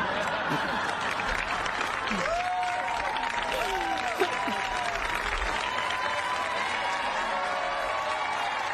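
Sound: audience applause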